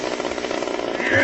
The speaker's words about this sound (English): I have something that might be able to open that. All right, ready? My God. Got a chainsaw? He does have a chainsaw.